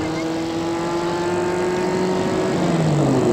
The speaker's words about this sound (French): Une fois dehors, elle marche. Elle voit arriver une voiture. C'est un taxi.